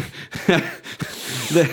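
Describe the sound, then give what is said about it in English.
A voice imitates a Trump sniffle: a few quick, breathy nasal sniffs in a row, broken by short voiced grunts, fairly loud and with no words spoken. “And in the interview, you'll hear him admit that a Trump sniffle.”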